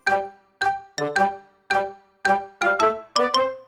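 A telephone ringing with a bright, chiming ringtone: about nine quick, bell-like notes in an uneven melodic pattern, some played in pairs, each fading fast. It rings loud and alone, with no voices.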